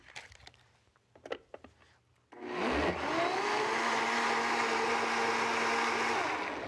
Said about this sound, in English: Just going to add a little bit more water, because we want it to be slightly liquid. Probably went overboard on the mango. Just give us another blend up.